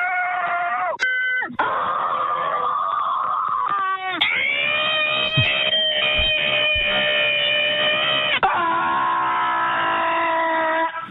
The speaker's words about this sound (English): but back in November, someone launched a hotline that you can call if you needed to scream at something. And they're closing down the hotline today. But here are some of the screams.